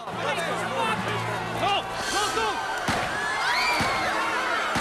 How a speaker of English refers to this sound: Three shots hit him at point-blank range and he drops to the ground. Standing, holding a small silver handgun,